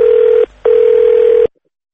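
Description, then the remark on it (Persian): The answering machine tone of Radio Farda's listener message line: two loud, steady mid-pitched beeps, a short one then a longer one after a brief gap, ending abruptly in silence. No voices are heard. “تلفن پیامگیر رادیو فردا”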